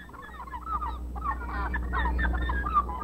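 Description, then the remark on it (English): A flock of seagulls calls over and over, harsh squawking cries overlapping throughout, with a steady low rumble of wind or water underneath. “The seagull is a scavenger, and to him the inside of a whitefish differs little from the inside of a trout.”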